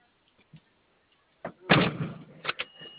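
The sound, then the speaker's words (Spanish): A heavy vehicle door slams shut with a loud, rattling thud, followed by a couple of sharp metallic clacks, after a few faint knocks. “A ver, cierra la guarda.”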